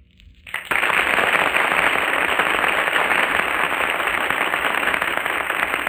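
Loud, sustained applause from a large studio audience judging competitors in an Echo contest, breaking out suddenly after a brief quiet start and continuing steadily as dense clapping to the end.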